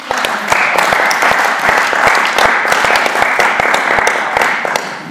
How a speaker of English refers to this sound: Give that man a clap.